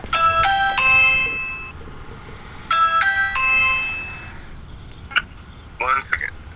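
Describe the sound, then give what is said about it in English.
A multi-note doorbell chime at a church door on Division Street plays its melody twice in a row, clear, followed by a couple of brief clicks and a short rattling sound. “I'm walking up and down Division Street and knocking on doors and ringing doorbells of spaces that have churchy names.”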